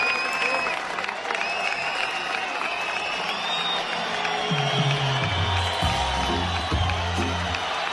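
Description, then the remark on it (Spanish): A concert audience at the Guardia Civil concert in Mérida applauds the musicians steadily for the full eight seconds, a dense wash of clapping with high whistles on top and low murmuring voices rising in the second half. “Y los aplausos que habían era para los músicos.”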